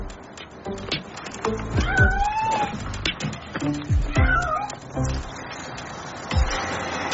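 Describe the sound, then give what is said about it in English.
A stray cat, set on chickens, meows repeatedly in drawn-out, wavering cries, loud, with a few harsher yowls and low thumps mixed in against a noisy background. “Now stick the stray cat on the chickens.”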